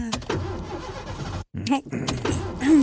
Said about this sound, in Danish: Jamen, så start du motoren. Motoren? Ja. Du ved, den maskine, der skal trække bilen.